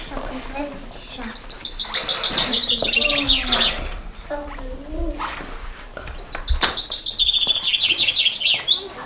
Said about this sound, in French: Ça, c'est le pinson. Gai comme le pinson.